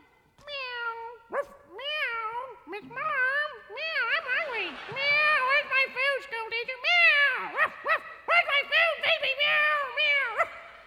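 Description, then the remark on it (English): A cat meows over and over, loud and insistent, its rising and falling cries following one another almost without pause for several seconds, as it comes home and enters a ranch house through a little cat door. “Matilda comes home and enters the ranch house through her little cat door”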